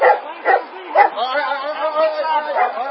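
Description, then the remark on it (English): German Shepherd dogs bark, with three sharp, loud barks in quick succession followed by continuous lower yelping and whining that carries on to the end. “Oh, they're so tough with the German Shepherds, just like Nazi Germany.”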